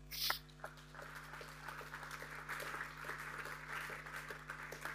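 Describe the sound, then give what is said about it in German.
An audience applauds steadily as two talk guests are called onto the stage, a dense wash of many hands clapping at moderate loudness that holds evenly for the whole stretch, with a low constant hum underneath and no one speaking. “Ihr kriegt vorher schon einen Applaus.”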